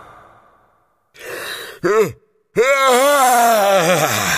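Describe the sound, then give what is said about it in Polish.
A woman's voice acts out loud, drawn-out yawns of a sleepy fisherman's wife waking under a featherbed: a breathy intake and a short groaning yawn, then a long, sweeping, moaning yawn that rises and falls in pitch, loud. “Ziewnęła ponownie, tym razem z taką siłą, że aż zadrżała w posadach skromniutka rybacka chatka, a obrazek ze ślubnym zdjęciem przekrzywił się na ścianie.”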